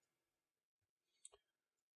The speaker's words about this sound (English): And a while ago, someone sent him a Pop-O-Matic D20 dice so he wouldn't have to touch the die